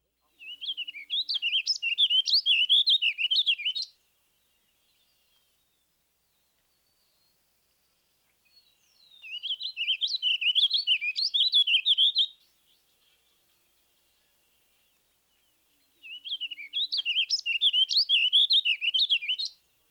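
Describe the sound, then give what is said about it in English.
A warbling vireo sings three rambling, burry warbled phrases separated by pauses, each ending on a distinct rising note; the song is clear with no other sounds. “Another good handle on the warbling vireo vocalization comes at the end of most phrases. Listen here for a distinct upward pitch.”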